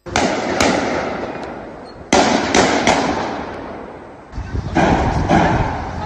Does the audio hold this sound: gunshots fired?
yes